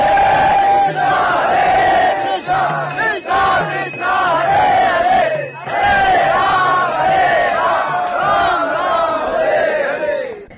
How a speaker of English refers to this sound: So they began to have a roaring kirtan, raising their arms.